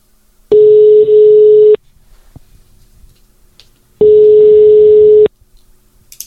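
Two long, steady electronic ringback tones of an outgoing phone call placed to a prize winner, each about a second long with a gap of roughly two seconds between them, loud and single-pitched with a slight buzzy edge, and no talking.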